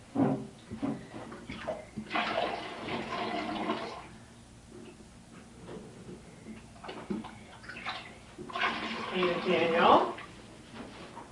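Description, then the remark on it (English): Water gushes from a tap in two separate bursts of a couple of seconds each, fairly loud, with quieter voices and movement in between. “Hold the water right there.”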